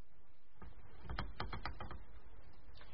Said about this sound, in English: The only sound was the squeak of his hammock rope on its hook